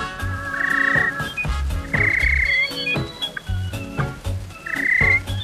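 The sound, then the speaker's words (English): Human voices mimic bird calls: bright, repeated whistled chirps and warbling trills come in loud bursts over low, throaty croaking pulses, with no ordinary speech. “And if you're trying to identify the birds chirping here, you've got the wrong species. Think Homo sapiens, not aves.”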